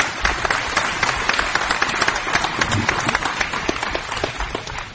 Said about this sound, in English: So give them another big round of applause.